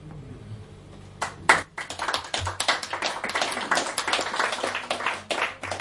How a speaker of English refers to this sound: I'm gonna get spoiled and used to the applause, and then I'm gonna go home to the States and show up to a reading, and it'll be me and the bartender, and that'll be it.